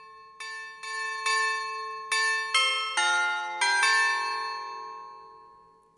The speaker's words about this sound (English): There was also jingle bells there. Jingle bells, radio button, jingle, radio button.